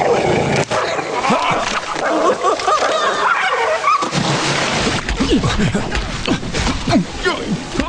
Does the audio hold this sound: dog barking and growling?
yes